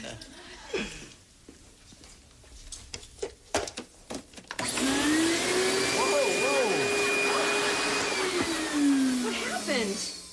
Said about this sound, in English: Hey, Dana, do you mind if I vacuum? Well, no, she doesn't. Vacuum away.